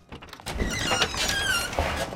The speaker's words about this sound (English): George opens his front door to Russell.